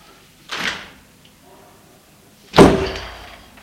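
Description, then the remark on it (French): A bedroom door is flung open with force in the afternoon, as someone bursts in on a person studying: a quick rushing thud, then after a pause a loud, heavy bang that rings out and fades slowly. No voices. “La porte s'est ouverte violemment.”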